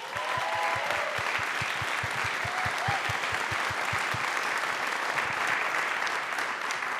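A crowd applauds steadily for several seconds, a dense wash of clapping with a few distinct, rhythmic claps standing out at the start, then fading into continuous applause.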